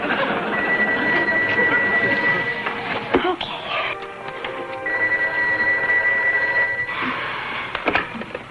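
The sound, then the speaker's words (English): A telephone rings twice, each ring a steady warbling bell lasting about two seconds, separated by a brief pause, heard over a busy, noisy background. “Are you going to answer the phone?”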